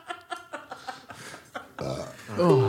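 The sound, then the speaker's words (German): Several quick, soft gulps in a steady rhythm, then a strained, throaty rumble as a burp is held back and swallowed, fairly loud at the end. “Ich unterdrücke meinen Rülpser mit Schlucken.”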